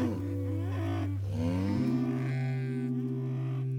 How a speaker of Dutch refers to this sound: Daar horen zeven koeien bij. Die grazen samen in de wei.